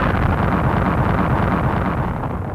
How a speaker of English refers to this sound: Suddenly, there was a terrific explosion, and all three of them dived to the ground.